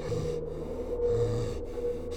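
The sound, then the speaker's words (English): An unseen animal, its face pressed to the side of a tent, sniffs and snuffles along the bottom of the tent fabric with steady breathy huffs and low rumbling snorts in a continuous stream. No voices. “It was closer now, and whatever it was seemed to have its face pressed to the side of the tent, as I could hear it sniffing along the bottom of the material.”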